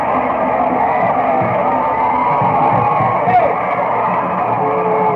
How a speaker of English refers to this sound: And the homecoming crowd here at Young High School have something to cheer about on that one.